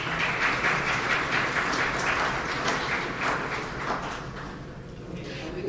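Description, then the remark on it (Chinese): A crowd claps steadily for several seconds at a GAC meeting, a dense, even patter of many hands that stays fairly loud throughout and thins only slightly toward the end. “好的，谢谢，我们应该要鼓掌一下。”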